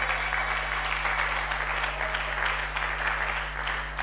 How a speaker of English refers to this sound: And I think this is a good spot to clap.